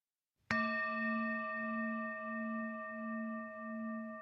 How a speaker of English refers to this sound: Thank you, Carlita, for ringing the bell.